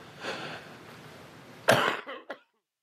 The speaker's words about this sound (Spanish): La producción, necesito hacer una pausa. Me es imposible seguir hablando, tengo un ataque de tos aquí.